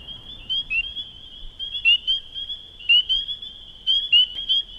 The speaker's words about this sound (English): And what you'll hear is, you hear the spring peepers and then the sound of a leopard frog, which almost sounds like a stomach growl, and how she reacts to that sound.